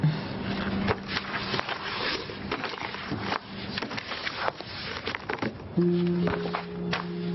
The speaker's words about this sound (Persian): حالا یک خودکار بردارش بنویس ببین جنس کاغذ دوست داری.